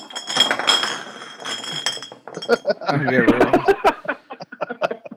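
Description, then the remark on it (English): Glass beer bottles stacked into a homemade castle clink and clatter in a tumbling crash as a person crashes through it, with bright overlapping impacts and scattered rattles settling afterward, while voices chuckle and murmur. “As he crashes through his homemade castle of beer bottles.”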